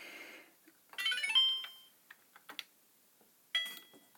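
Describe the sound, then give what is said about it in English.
A washing machine door lock engaging: a few short, dry mechanical clicks, set between bright electronic chime tones from the machine's panel, with no one talking. “Oh, yeah, and you heard that lock.”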